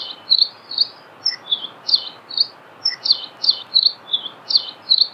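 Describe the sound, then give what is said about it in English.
A lively, canary-like song of a Nihoa finch (Palihoa) on Nihoa Island: rapid bright chirps and trills repeating steadily at high pitch, clear, over a soft hiss of background noise with no talking. “If you're lucky enough to ever visit Nihoa Island, you can't miss their lively, canary-like song.”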